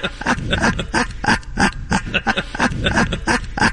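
A man snores in rough, snorting rasps that repeat in a quick, steady rhythm, fairly loud and with no talking over it.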